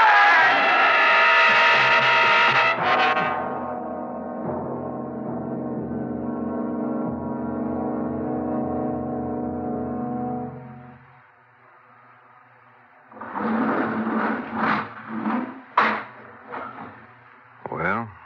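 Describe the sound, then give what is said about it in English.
A loud, blaring truck horn sounds as the truck comes toward a car, then drops into a long droning tone that holds for several seconds before cutting off; after a short silence, voices and clattering sounds follow. “There's something coming at us. Dad, it's a truck. Look out!”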